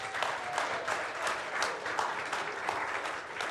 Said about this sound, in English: We're very thrilled to be able to welcome you into membership. Give them a clap.